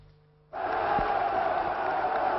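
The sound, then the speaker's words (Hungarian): After a brief quiet moment, a large crowd in Romania erupts into loud, sustained shouting and booing as the communist dictator Nicolae Ceausescu begins to speak, a dense roar of many voices that holds steady until the end. “Amikor a diktátor beszélni kezdett, többen közbe kiabáltak.”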